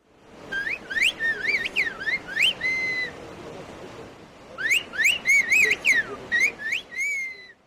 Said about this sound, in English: A whistled language is a highly developed method of communication. People use whistling sounds in place of words. The language was created as a way to communicate across great distances in difficult mountain conditions.